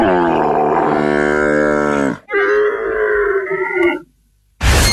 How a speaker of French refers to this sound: Quel est cet animal? Bah, je dirais un âne. Non plus. Non, c'est plus Cordillère des Andes, hein. J'ai dit hier. Hein. Un lama? Ouais!